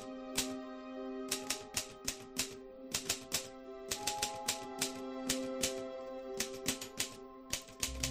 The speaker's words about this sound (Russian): В конце холла, в спальне, Венди слышала, как принесенная Джеком снизу пишущая машинка на 30 секунд оживала, на пару минут воцарялась тишина, а потом машинка снова давала короткую очередь.